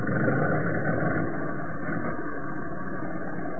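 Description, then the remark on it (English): An old car engine being cranked with its starting handle, a steady, dense mechanical rumble that holds at an even loudness throughout, with no voices. “I'll give it a couple of turns with the old handle for you.”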